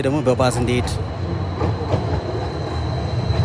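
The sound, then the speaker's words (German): A fully electric, Chinese-built modern tram in Addis Ababa rolls past, a steady low rumble of wheels on rails with a thin high whine from its motor, and a brief tonal hum at the start. “Immerhin fährt in Addis Abeba auch die erste moderne Straßenbahn südlich der Sahara. Natürlich voll elektrisch und wie die meisten E-Autos im Land von den Chinesen gebaut.”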